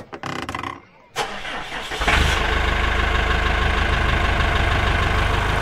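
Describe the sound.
A large diesel tractor engine cranks briefly, catches, and settles into a loud, steady idle with a low rumbling throb that continues to the end. Brief talk is heard before it starts.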